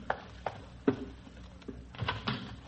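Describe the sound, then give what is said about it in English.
A door being opened to answer a caller, a vacuum cleaner salesman: a run of sharp clicks and knocks, one heavier thump near the middle, then a quick cluster of rattling latch sounds at the end, with no voices. “I'll go to the door.”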